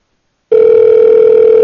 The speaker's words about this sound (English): Well, it's ringing, at least. Nah, she's not going to pick up. Maybe later.